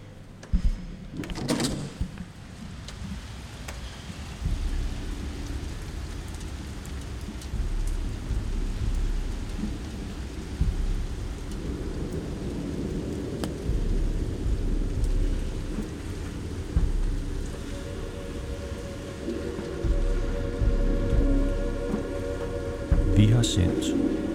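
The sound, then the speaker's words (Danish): Steady rain pours down continuously, a dense hiss with low rumbling underneath and a few sharp knocks or thuds early on and near the end, moderately loud. “Ikke andet end, at det regner. Det regner, og det regner, og det regner.”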